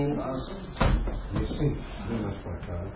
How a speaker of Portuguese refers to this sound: Se você puxar minha cadeira outra vez, você vai levar um corpo.